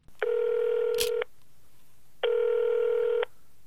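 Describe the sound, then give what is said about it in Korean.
A phone line rings out twice with a steady electronic ringback tone, each about a second long and separated by a pause, as a North Korean defector calls his future daughter-in-law. A faint click falls during the first ring, and no one speaks. “예비 며느리와 전화 통화를 하는 탈북자”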